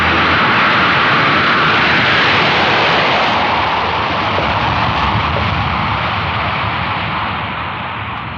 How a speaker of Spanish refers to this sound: El pequeño jet se ha detenido en la cabecera de una de las pistas laterales, obedeciendo indicaciones de los jefes de control de pistas del aeropuerto. A bordo, el piloto cierra los controles.